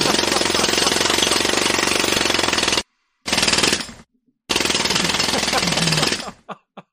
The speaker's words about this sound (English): It's, if I go down to the construction site and I listen to the jackhammer, it's very soothing. Oh, so soothing. Let's hear that right now.